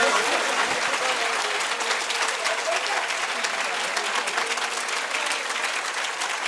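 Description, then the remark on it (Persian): Sustained applause from a crowd, a dense steady wash of many hands clapping at an even loudness for several seconds with no voices standing out. “یه کف بزن من یه آب جوش بخورم، خفه شدم. کف بزن خوشگل.”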